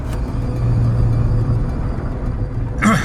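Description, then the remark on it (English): A car rolls over a rough paved road pitted with potholes, with a steady low rumble of tires and engine, a faint bump or two, and a brief higher rattling thump near the end. “listening to the sound of the road below”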